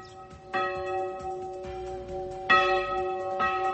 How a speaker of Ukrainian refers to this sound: Протягом століть церковний дзвін у вічному місті, як годинник, сповіщав про початок робочого дня, закликав людей на недільну службу до храму, знаменував святкування Різдва та Великодня.